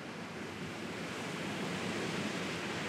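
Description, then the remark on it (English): A steady, continuous roar of Atlantic Ocean surf, waves washing in, with no voices and no distinct individual crashes standing out over three seconds. “An impetuous general, Uqba ibn Nafi, led his cavalry through Libya, Tunisia, Algeria, and Morocco, and his progress was brought to an abrupt and frustrating halt by the surf of the Atlantic Ocean.”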